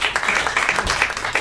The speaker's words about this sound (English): The number one movie in the country right now is The Help. Clap if you saw The Help.